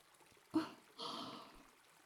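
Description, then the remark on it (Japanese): Shower water rinsing the whole head of hair after a shampoo: a short splash, then about half a second of soft, hissing spray that fades out. Quiet overall, with no voices. “最後に、シャワーで全体すすぎを行っていきますね。”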